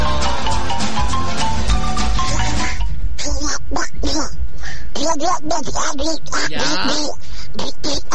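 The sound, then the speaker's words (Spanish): A contestant at a Sunday imitation festival, Animal Print edition, imitates Donald Duck's voice, sounding distressed, producing a rapid series of raspy, nasal quacking bursts at a steady loud level, following a few seconds of dense, noisy background sound. “Parece que este pato Donald está angustiado.”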